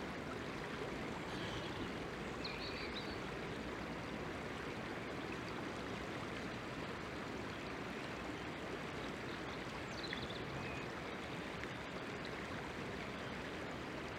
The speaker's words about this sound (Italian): L'argomento di oggi sarà il fiume. Lo scorrere dell'acqua, incessante e inarrestabile, è un'antica metafora.